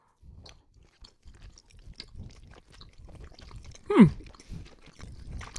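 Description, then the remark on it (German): Wet chewing of food bitten into heartily runs through the whole stretch, irregular mouth noises with a sharper, louder bite or crunch near the middle, and no talking over it. “Ihr müsst da schon mal herzhaft reinbeißen.”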